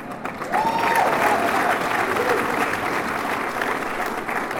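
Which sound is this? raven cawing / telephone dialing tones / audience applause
audience applause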